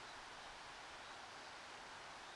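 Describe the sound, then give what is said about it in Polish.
A steady, unbroken hiss of rushing water in a forest, soft, like a stream or small waterfall, with no voices or other sounds. “Kiedy słyszysz szum wody, kiedy być może słyszysz ptaki, kiedy słyszysz mój głos, który jest spokojny, ukojony, na maksa szczęśliwy i uśmiechnięty.”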